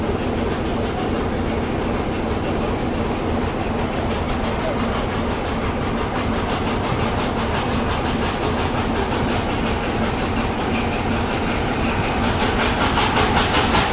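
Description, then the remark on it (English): Steam locomotive number 60007 pulling a packed train rolls into Goughland Station in the North Yorkshire Moors, a steady loud rumble of wheels and rail clatter, with rhythmic chuffing pulses building toward the end as it arrives. “So here comes the steam loco into Goughland Station, up here in the North Yorkshire Moors.”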